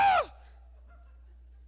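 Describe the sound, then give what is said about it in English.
A man's voice lets out one short, loud, high-pitched falsetto shriek that drops sharply in pitch and cuts off, imitating a scream, followed by near silence. “I screamed so loud, my voice went falsetto.”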